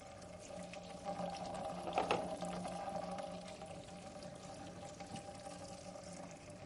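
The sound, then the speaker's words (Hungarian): Steady bubbling and churning of water boiling inside a metal barrel as its bottom is cooled and the pressure drops, a continuous rushing wash with a faint resonant hum, rising briefly around two seconds, no voices. “Ugye itt halljuk ám a víznek azt, hogy forra víz, mert annak hatására, hogy a vizet, én elkezdem az edény alját hűteni, a víz belül még forrásba jön.”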